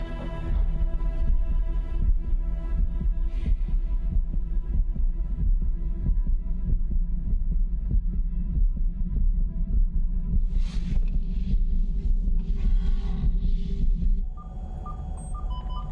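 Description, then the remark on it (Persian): A low, throbbing heartbeat pulses steadily under a deep droning hum, with faint high tones drifting in near the end; no one speaks. “ضربان قلب داره سری بالا میره.”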